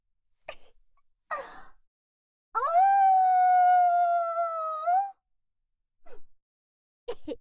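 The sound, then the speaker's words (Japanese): A voice imitates a wolf howling at the moon, a single long, clear note that swoops upward and holds steady for about two and a half seconds. Short breaths or sniffs come before and after it. “なあなあ、一回だけ吠えてもいいか。”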